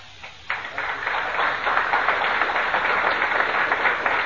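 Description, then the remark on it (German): A crowd bursts into applause, a dense, steady patter of many hands clapping that holds at a fairly loud, even level for several seconds. “Applaus.”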